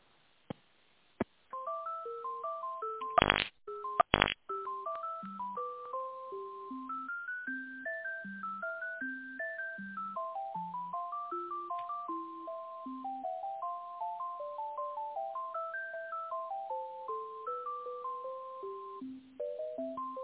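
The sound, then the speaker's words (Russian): A telephone ringback tone heard while a call is transferred to someone who does not pick up, playing as a simple beeping electronic melody, thin and tinny over a phone line, running steadily for about twenty seconds after a few sharp clicks near the start. “Знаете, она не берет трубочку.”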